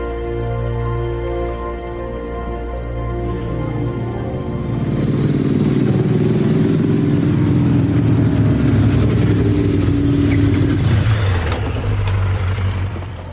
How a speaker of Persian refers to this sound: موتور قشنگیه. منم یه دونه قدیمی ترش رو داشتم.